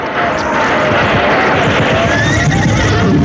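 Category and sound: animal, horses neighing and galloping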